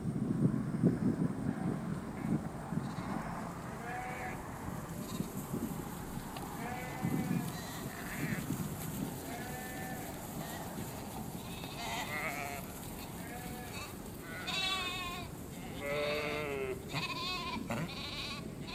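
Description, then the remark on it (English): A flock of sheep bleats again and again, their wavering calls overlapping and coming in quick clusters over a steady low rumble, with no voices heard. “Sheep, come on, sheep.”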